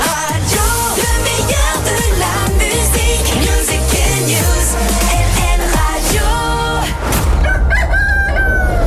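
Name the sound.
rooster crowing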